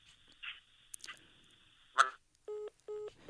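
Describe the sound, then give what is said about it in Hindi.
Telephone line tones as a caller's call to a radio phone-in show cuts off: a thin steady whine with crackly bursts, then two evenly spaced, flat electronic beeps near the end, fairly loud, with no talking. “Phone cut गया।”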